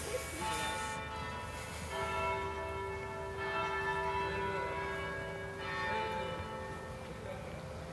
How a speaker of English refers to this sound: Oh, there's the bells. Hear that? 2 o'clock bells. 2 o'clock bells.